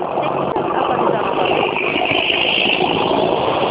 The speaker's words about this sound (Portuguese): Olha, eu não consegui entender, passou um caminhão barulhento.